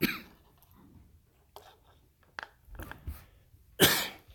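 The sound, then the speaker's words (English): Several dry coughs and throat-clearing sounds come in an uneven series of short, raspy bursts, ending in one louder, harsher cough. No one speaks, and the pauses between coughs are quiet. “Excuse me, I'm just running a bit dry.”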